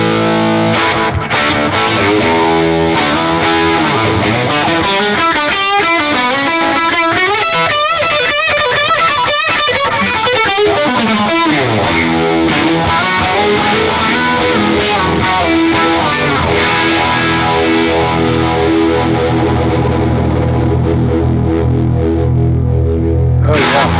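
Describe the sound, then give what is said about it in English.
Loud, distorted music drenched in a heavy slapback echo effect, the repeats piling up over sustained, wavering tones before the high end thins out near the close. “And I like the way you do that real, that slap back, kind of over the top.”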